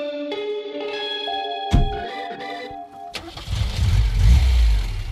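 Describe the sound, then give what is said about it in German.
An Audi car engine cranks and catches after a brief tonal whine, then revs into a loud, deep rumble as the car pulls away, with no one talking. “Schöner Wagen. Den Audi meine ich nicht.”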